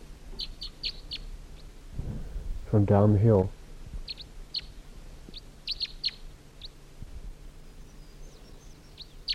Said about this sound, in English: It's 6:12 now, and it sounds like there's another wild bird here. Another wild crossbill. Sounds like another type 3 bird.